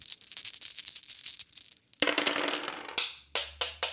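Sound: three dice being rolled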